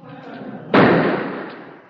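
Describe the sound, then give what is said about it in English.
A single sharp, loud gunshot cracks out partway through, its echo trailing off over the remaining second above a low, steady background murmur. “Gunshots. Must be murder.”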